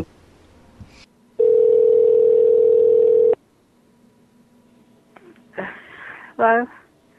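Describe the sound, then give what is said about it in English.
One loud, steady telephone ringing tone lasts about two seconds over a quiet line, then cuts off, followed by a pause and a few short breathy noises and voice-like sounds. “I can't hear that shit ringing.”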